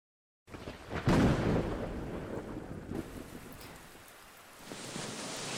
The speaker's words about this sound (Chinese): 怎么了？不怕不怕，打雷而已，我在呢。怎么胆子那么小啊？宝宝，不怕不怕。听着下雨的声音，很好睡的。